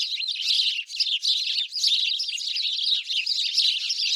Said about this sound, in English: The house sparrow is native to Eurasia and North Africa. However, these birds were forced to adapt to many places around the world. They were brought to the U.S. by way of Brooklyn in 1851 to control pesky caterpillars.